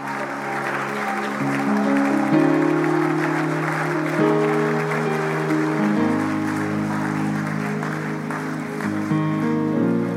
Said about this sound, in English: Why don't you clap your hands unto the Lord, and somebody lift up a shout of praise and hallelujah.